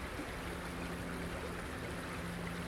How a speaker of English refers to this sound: So I'm there just walking next to a small stream. It's a place where I used to come as a small boy. We're just on the side of the new Selly Oak Relief Road.